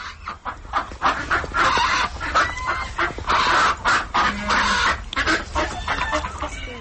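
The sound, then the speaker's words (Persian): A flock of ducks at a snowy zoo calls loudly and almost continuously, with overlapping harsh, nasal quacks and cackles rising and falling in bursts, and no voices present. “تنها از جای صدای گاه مرغابی و گاه سگ را شنیدن ممکن است که در بی اصطلاح منزل های خود روی برف برخی خوابند و برخی دیگر گویی از سردی در جای نایستاده به هر سو حرکت میکنند.”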